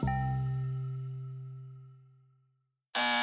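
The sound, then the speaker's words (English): An apartment door buzzer: a ringing tone fades slowly into near silence, then a loud, harsh electric buzz starts abruptly and continues to the end. No one speaks. “Whether it's to let a delivery guy up or to greet a loved one, the apartment door buzzer brings joy into our buildings and our lives.”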